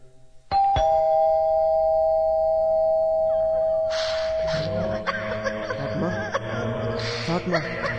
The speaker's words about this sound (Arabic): ندق الجرس.